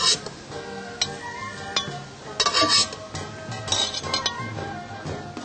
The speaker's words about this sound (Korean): 자, 이제 다 된 것 같으니까요. 네. 자, 접시에다가 한번 얹어볼게요. 네. 노릇노릇하게 잘 구워졌네요.